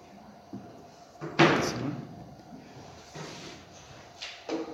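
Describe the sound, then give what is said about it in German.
An empty drawer slides with a short scraping rush and a dull knock, followed by a few softer bumps and shuffles, with no talking. “Ich habe euch eine Schublade mitgebracht. Die ist noch leer.”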